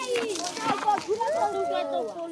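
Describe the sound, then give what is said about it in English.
Children in the village of Boikarabelo, South Africa, shout and chatter excitedly as they spin a play pump merry-go-round that draws water from an underground well into an elevated storage tank. Their high voices rise and fall continuously, with a lively playground bustle around them. “As kids spin it around, they draw gallons of pure water from an underground well and into an elevated storage tank.”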